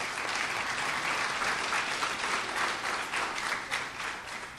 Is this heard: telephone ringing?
no